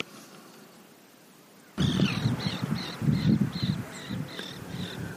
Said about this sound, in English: Good morning. You might hear some birds in the distance.